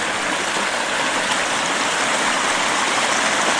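Steady rushing water of a creek about 12 to 15 feet wide, a dense, even hiss of flowing current that holds constant and fairly loud throughout, with no voices or other sounds breaking through.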